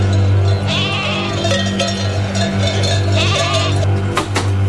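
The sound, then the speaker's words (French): Horses whinny and neigh in a couple of wavering calls over a constant low droning hum, with a busy farmyard-like background and no talking, from a collection of recorded sound effects. “Des chevaux, j'ai retrouvé des chevaux.”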